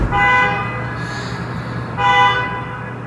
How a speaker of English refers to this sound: Those are confused and apparently angry Waymo self-driving cars honking and beeping at each other at one of their main parking lots and recharging centers in Santa Monica, where people are complaining that the Waymos are screaming at each other